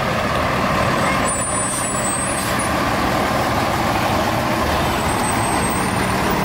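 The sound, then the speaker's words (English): Engine number 4 of the Holton Fire Department at the Ohio Hill Country Festival: the fire engine's heavy diesel rumble runs loud and steady throughout, broken by sharp high hisses of air brakes releasing early on and again near the end. “Once again, engine number 4, the Holton Fire Department.”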